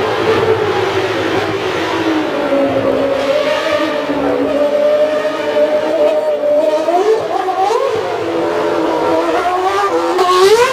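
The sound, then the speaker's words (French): A racing car engine roars loudly and steadily for the whole stretch, its pitch climbing and surging as it revs higher near the end, with no talking over it. “Il fait un sacré bruit, le moteur de ta bicyclette, toi.”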